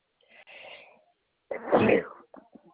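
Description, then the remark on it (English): A breathy inhale followed by one sharp, loud sneeze, trailing off into a few faint sniffs and small mouth sounds. Nobody speaks. “Bless you.”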